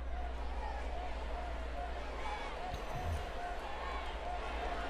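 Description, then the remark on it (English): A restless, impatient crowd waiting for an event murmurs steadily, many overlapping voices blending into a dense, unbroken babble over a low rumble, with a brief thump partway through. No music is played. “Lots of ambient noise there as the crowd is getting a little impatient, but seemingly still waiting very, very orderly for this momentous event to take place.”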